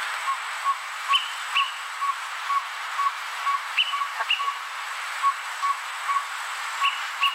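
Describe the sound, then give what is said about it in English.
A greater pewee's song: a steady series of short, clear whistled notes repeating at a regular pace, with occasional higher accents, heard alone over a faint hissy background. “And I this is what the greater peewee sounds like, so everyone can have an idea of what we're trying to talk about here.”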